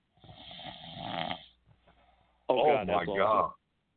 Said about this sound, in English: 10 minutes of uninterrupted snoring of …